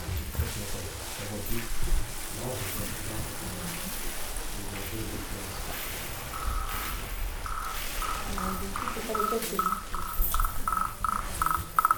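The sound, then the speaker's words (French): A small frog croaks in a quick, evenly spaced series of short calls that start midway and repeat steadily, over a constant hissing, rain-like background with faint low rumbling. “On entend une petite grenouille.”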